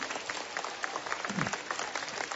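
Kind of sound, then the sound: crowd, warm applause from pilgrims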